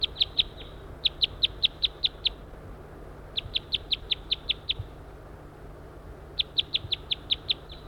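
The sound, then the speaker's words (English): A male wild bird, circling and hanging around, calls in bursts of sharp, high-pitched notes, each run of six to eight quick repeated calls separated by pauses, loud over a low, steady background rumble. “Circling that male who's hanging around, still calling loud.”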